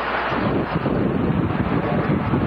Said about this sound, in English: listen to this video, Senator McCain, of a Syrian, fighter jet being shot out of the sky